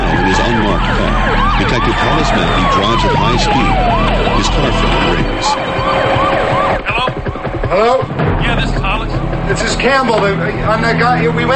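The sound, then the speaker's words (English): Several police sirens wail and sweep up and down loudly together over a low engine rumble, with screeching tires, as Hollis and other police cars race down a street. “Screeching tires, Hollis and other police cars race down a street.”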